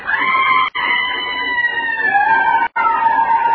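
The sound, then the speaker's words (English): A loud, shrill whistle or brake screech from a train as it begins to move holds steady for several seconds, its piercing tone gliding slightly in pitch and cutting out briefly twice, with no voices. “And it was the brakes or a train whistle.”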